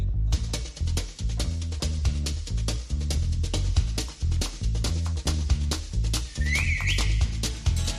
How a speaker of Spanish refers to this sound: Me encanta el silbido.